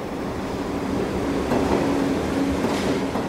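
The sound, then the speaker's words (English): A subway train rumbles past, a steady roar of wheels on track with a faint whining hum riding on top, no voices. “In the farthest reaches of my imagination, I can see myself jumping onto a subway track to attempt the rescue.”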